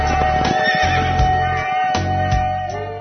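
A horse neighs in a long, shrill whinny with a wavering tone, sounding fairly loud, over low thudding sounds and with no one talking.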